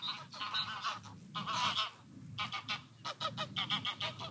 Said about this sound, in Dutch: Ik laat even de ganzen overkomen.